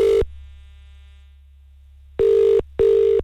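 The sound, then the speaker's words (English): A telephone rings with a loud electronic trill: a short burst, a long pause, then a quick double ring. No one speaks. “So make sure you know what you're doing if your phone starts ringing right now.”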